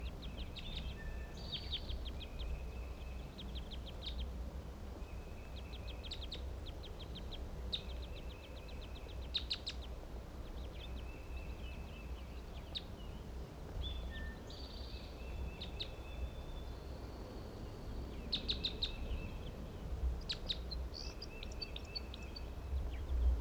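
Soft, scattered weak bird chip notes ring out intermittently over a steady outdoor background hum, several faint high calls repeating irregularly from a group of birds foraging in a white pine.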